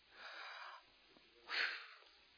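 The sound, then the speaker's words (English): A deep breath drawn in slowly, a short pause, then a stronger, louder breath pushed out, with no talking. “Take a deep breath.”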